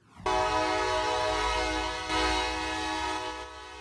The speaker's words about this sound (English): Loud train horn blasts heard in North San Jose neighborhoods during the wee hours are now a thing of the past. Today, city leaders celebrated its new partial quiet zones that ban train horns from blaring between 10 at night and 7 in the morning.